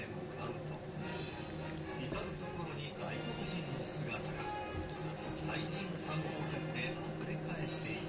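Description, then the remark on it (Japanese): Construction work noise outside drones on steadily, a low mechanical hum with a broad wash of grinding clatter and occasional sharp knocks, with indistinct voices mixed in, loud and continuous throughout. “工事が工事うるさいな。”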